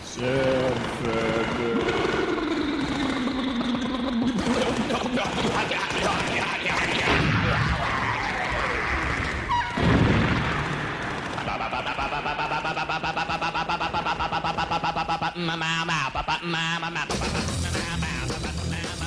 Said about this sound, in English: this is the … sequence. It's one of the best uses of pop music in a movie ever.